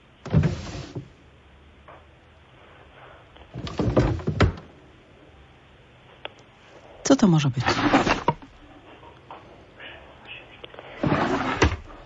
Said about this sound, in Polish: Co to jest? Krzesło? Mogę uznać, że to jest krzesło. A z czego to krzesło jest zrobione według ciebie? Drewna.